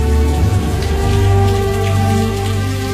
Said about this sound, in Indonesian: Lagi-lagi sore itu hujan pun turun.